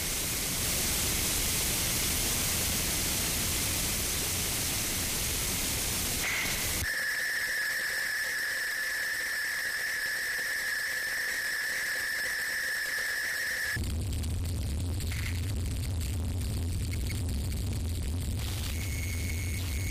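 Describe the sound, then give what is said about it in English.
Harsh noise music: a dense, roaring wall of static gives way to a piercing sustained whistle over hiss, then erupts into crackling, stuttering bursts with a low rumble. No voices. “Well, whether you consider it noise or music is up to you.”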